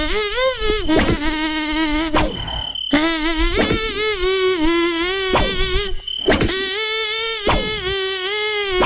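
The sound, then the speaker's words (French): A loud mosquito-like buzzing whine drones almost continuously, its pitch wavering up and down, broken by a couple of brief pauses. “Est-ce que t'as un deuxième moustique ou un cafard ou une bestiole?”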